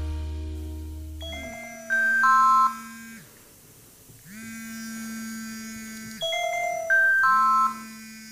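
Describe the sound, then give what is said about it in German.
A work desk phone in a hospital rings with an electronic tone, a buzzy trill stepping up through a short melodic pattern, repeated twice with a pause between. It is loud, with no one talking. “Unser Diensttelefon klingelt.”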